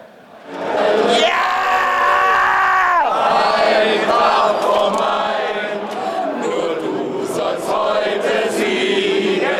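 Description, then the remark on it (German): A huge crowd of about 12,000 football fans on the Römerberg square sings and shouts together while celebrating a cup win at a triumphal parade, a loud, dense roar of many voices with chanted, sustained tones rising and falling, continuous throughout. “Zwölftausend Kehlen singen und schreien alleine auf dem Römerberg um die Wette.”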